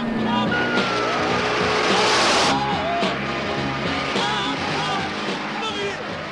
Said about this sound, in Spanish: Vamos a toda velocidad en dirección norte por la Portland Avenue. Perseguimos sedán blanco y negro de 1974 con matrícula de Illinois. Pedimos ayuda.